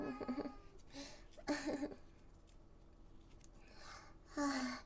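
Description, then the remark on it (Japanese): A person imitates a cat's meow several times, drawn-out nasal vocal calls with short breathy gaps between them, with no other talking. “にゃおーんって逆ボールの出番。”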